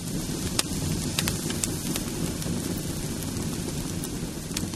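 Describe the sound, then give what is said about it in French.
A large bonfire crackles steadily in Badalona on 10 May, where a demon figure is burned for the Cremada del Dimoni festival, with sharp pops and snaps scattered over a constant low roar of flames, moderately loud, with no voices. “Entendez-vous crépiter le feu ? Ce sont les Badalonais qui fêtent la Cremada del Dimoni, c'est-à-dire le bûcher du démon.”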